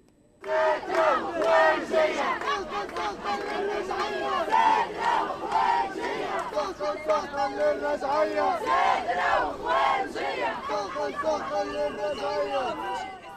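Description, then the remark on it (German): A large crowd at a street demonstration in Tunis, Tunisia's capital, the opening march of the World Social Forum, chants loudly and continuously in unison, rhythmic shouted slogans rising and falling in waves, with many voices overlapping throughout. “So tönte es gestern auf den Straßen der tunesischen Hauptstadt.”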